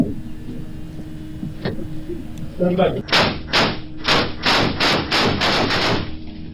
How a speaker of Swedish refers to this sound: Totalt avlossar de två gärningsmännen 11 skott och offret faller till marken.